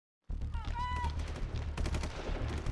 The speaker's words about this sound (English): Buck Sergeant James Norton shielded his eyes from the bright flashes of gunfire exploding along the shooting range. Norton was overseeing his troops as they tested the Army's new Joint Attack Weapon System, or JAWS.